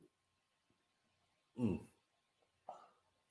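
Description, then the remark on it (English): A man gives two sharp, abrupt hiccups about a second apart, the first louder than the second, against an otherwise quiet background with no talking. “He is hiccuping as we speak.”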